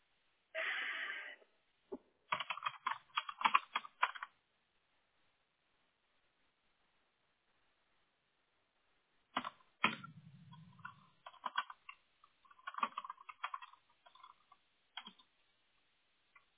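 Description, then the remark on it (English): Bursts of quick, light clicking and tapping of a computer keyboard being typed on and a mouse being clicked, in two clusters separated by several seconds of silence, moderately loud, with no one speaking. “And then I'm going to talk you through the clicks and the typing, and then I have to read it to you anyway.”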